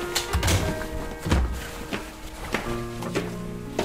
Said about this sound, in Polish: Tato, dlaczego odłożyłeś słuchawkę?